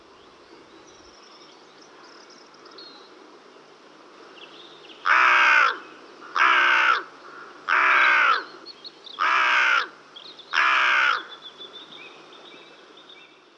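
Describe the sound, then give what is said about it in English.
A carrion crow gives five harsh, evenly spaced caws, loud, over a soft background hum of insects. Nobody speaks. “They feed on dead animals, as their name suggests, invertebrates, and grain, as well as stealing eggs and chicks from other birds' nests.”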